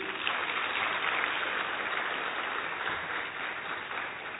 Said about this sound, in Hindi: आप सबसे अनुरोध है थोड़ा ताली बजा दीजिए।